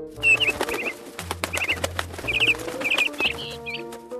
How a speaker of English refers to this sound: On their third day in the forest, a bird called out to them sweetly.